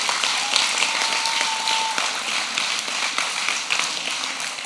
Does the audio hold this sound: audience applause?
yes